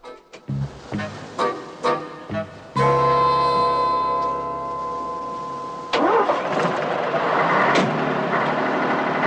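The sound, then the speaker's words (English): A bus's large engine cranks in several short bursts, catches and settles into a steady rumbling idle, then revs up loud and strained for the last few seconds as the bus, sinking and stuck in sand, fails to move. No one speaks. “He revs the engine, but the bus doesn't shift.”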